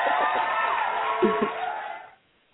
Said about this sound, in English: Where's my applause? There they go.